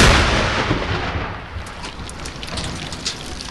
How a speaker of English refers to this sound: And sure enough, on Tuesday morning, the Haqqani network opened up again. A dozen mortar rounds slammed into the camp, some within feet of sleeping troops.